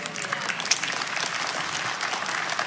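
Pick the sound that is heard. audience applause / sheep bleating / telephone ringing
audience applause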